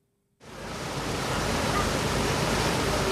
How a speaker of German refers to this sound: Es ist heiß und schwül an diesem Tag im Mai. Ein Motorboot tuckert entlang der Westküste der Insel Lantau im Süden von Hongkong.